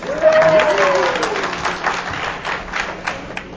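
An audience applauds in a dense, steady patter of many clapping hands, with a brief high cheer sliding downward near the start before the clapping carries on evenly.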